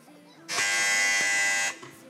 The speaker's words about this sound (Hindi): देखते हैं इस राउंड का आखिरी सवाल, कौन पहले बजर बजाता है.